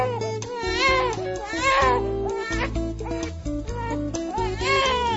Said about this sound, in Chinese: 保罗的父亲用大桶牛奶喂养保罗，可一头奶牛的乳汁还远远不够保罗吃的，保罗常常饿得哇哇大哭。